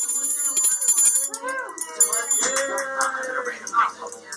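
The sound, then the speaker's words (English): A bell rings with a steady, high metallic tone while intensive care unit staff at Beth Israel Deaconess, gathered in the hallways to celebrate a COVID patient's extubation, cheer and whoop over it, their voices rising and overlapping throughout. “They gather in the hallways and ring a bell and cheer.”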